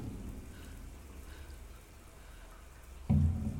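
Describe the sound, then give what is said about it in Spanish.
Steady hiss of running shower water fills the space, constant and moderately loud, with no voices. Near the end a sudden low thud briefly swells the sound. “Alex sigue dentro de la ducha tapada con la toalla y dejando el agua correr.”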